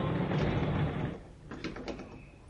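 A door in a store slides or swings open with a rushing mechanical whoosh, then a few quick rattling clicks as it settles, with no voices.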